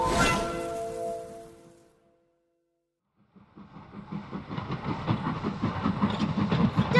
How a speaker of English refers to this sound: Look, the train is leaving the station. But there's a tree on the track. Run, Flash! Run and stop the train!